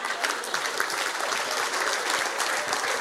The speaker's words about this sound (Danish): Fanden klapper I for?